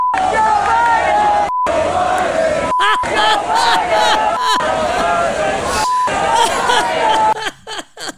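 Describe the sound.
A large protest crowd in Alabama, with pro-Palestinian and pro-Israel sides, chants and yells opposing slogans like "free Palestine" and "go Israel" in unison, loud overlapping voices with a rhythmic, rising-and-falling cadence, briefly cut by short gaps, then trailing into scattered shouts at the end.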